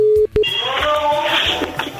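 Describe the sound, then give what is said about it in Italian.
A radio show phones a listener of Radio Toscana: a steady telephone line tone cuts off after a moment, followed by a short beep as a number is dialed, then a dense, buzzing blend of electronic tones fills the rest of the line. “O sentiamo, vai Fossati, vai telefono.”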